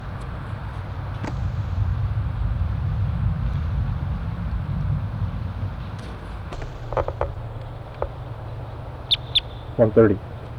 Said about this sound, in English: In response to wild birds coming around the parking lot area.